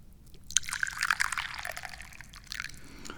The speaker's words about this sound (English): It is also time to drink some tea. I'm drinking ginger made today, so let's pour some.